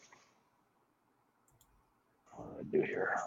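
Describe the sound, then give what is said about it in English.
Soft, quick clicking of keys on a computer keyboard, fairly quiet. Then a person starts talking loudly over the last second. “I am almost done typing this.”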